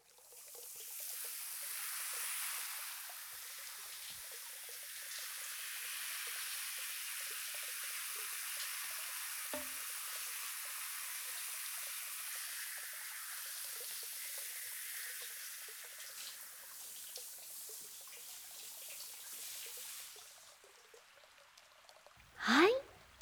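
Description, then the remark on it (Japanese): A steady shower spray hisses for about twenty seconds as it rinses a whole head of hair, its texture shifting slightly as the water runs over it, then cuts off, followed by a short knock. “それでは最後にシャワーで頭全体を流していきますね。”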